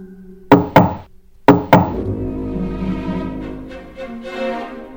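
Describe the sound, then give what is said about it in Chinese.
Four sharp knocks on a wooden door in two quick pairs, loud, as Alice knocks on the door herself, followed by a lingering, muffled noisy background with no talking. “眼看蛙仆人不理不睬，爱丽丝只好自己去敲门。”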